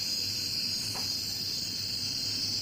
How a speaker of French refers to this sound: Ça, c'est en Nouvelle-Guinée. On a l'ambiance sonore de la Nouvelle-Guinée. Alors vous n'allez pas entendre le son du mâle, c'est des hautes fréquences, et on les entend un tout petit peu, c'est une espèce de chuintement.